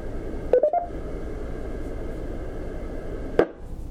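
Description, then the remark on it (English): A short burst of electronic radio beep tones from an amateur radio handheld transceiver (HT) transmission, a few quick mid-pitched chirps stepping upward, over a steady background hiss, followed later by a sharp click as the noise cuts out. “Well, hopefully the beep is gone too.”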